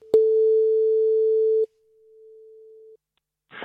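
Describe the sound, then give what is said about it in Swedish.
A steady single-pitch telephone ringback tone of an outgoing survey call sounds loudly for about a second and a half, then repeats more faintly, before a voice briefly begins at the end. “Vi ringer och stör folk lite till höger och vänster.”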